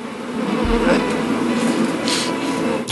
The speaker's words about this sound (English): They're on your chin. He has a helmet of bees upon him.